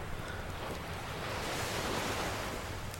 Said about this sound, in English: And the ocean just a little further down the beach.